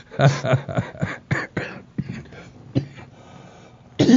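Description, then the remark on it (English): A deep hacking cough fit: a rapid cluster of rough bursts, then a few scattered coughs trailing off, with a final loud hack at the end. “That's a deep down cough.”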